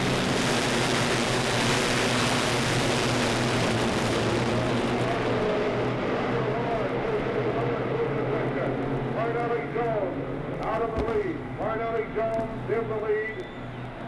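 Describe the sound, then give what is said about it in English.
A loud, sustained roar of many race car engines surges together as the green flag starts the race, with Parnelli Jones on the pole and the pace car pulling into the pit area, with rising and falling pitch sweeps as cars accelerate past, filling the entire clip without pause. “The pace car moving off into the pit area. And the green flag is on.”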